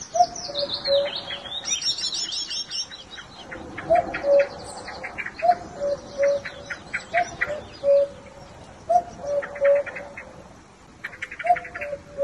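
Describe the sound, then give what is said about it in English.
A cuckoo calls repeatedly outdoors in Kerry, its low hollow notes coming in uneven groups, sometimes with an extra syllable, while smaller birds chirp and twitter steadily in the background. “Well, that is indeed a cuckoo, or perhaps a cuckoo.”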